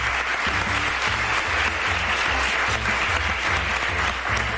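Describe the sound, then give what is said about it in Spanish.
Sustained audience applause during a programme, a dense, steady wash of many hands clapping at an even, fairly loud level for the whole stretch, with faint musical tones underneath and no voices. “Vale, que dicho esto, si no, en aplausos nos va todo el programa, que dura muy poco.”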